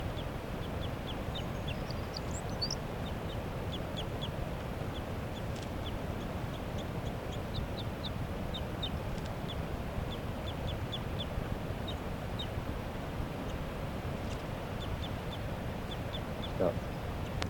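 Short, high-pitched calls from a caged bird repeat in loose clusters throughout, over a steady low rumble, with a few faint brief bursts that could be wing flaps of a caught wild female bird. No one speaks.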